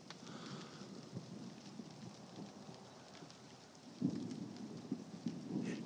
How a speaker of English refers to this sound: A flicker of the house lights. A flash in the street outside. And I just had to come out and hear the thunder.